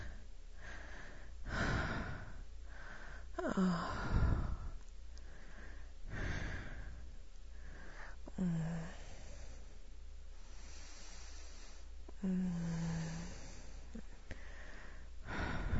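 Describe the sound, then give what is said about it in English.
Heavy, labored breathing of two people after exertion: slow, deep inhales and exhales repeating every few seconds, a few ending in soft voiced sighs, with no talking. “We're both breathing fairly heavily.”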